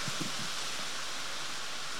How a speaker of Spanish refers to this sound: Vamos a tratar de pelear contra el ruido de la lluvia. Si ustedes ven que se deja de escuchar, bueno, no sé lo que vamos a hacer.